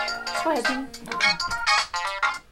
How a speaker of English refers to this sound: Good morning, City Hall. That's the city's cell phone.